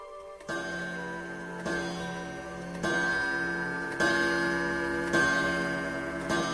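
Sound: clock ticking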